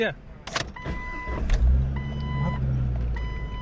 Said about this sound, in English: All right, so we're in my car now, and we're going to go somewhere.